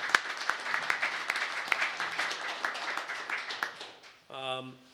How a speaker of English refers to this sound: Big round of applause to the group supporting.